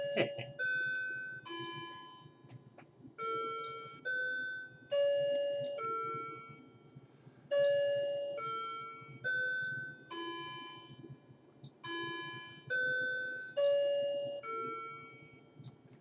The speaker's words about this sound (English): Okay, I've waited out the ringing of my clock.